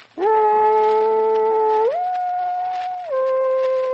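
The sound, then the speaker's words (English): A man playing the character Coyote Joe loudly imitates a dog barking for the ladies, voicing one long sustained howling call that steps up in pitch partway through and then drops lower, heard alone. “Bark for the ladies, Joe. Ever obligingly, I hereby bark.”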